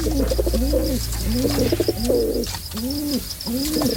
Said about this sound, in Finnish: Tältä kuulostaa siis pari pulua, kun ne pyörii jossain puluastiassa. Vanha kunnon puluastia.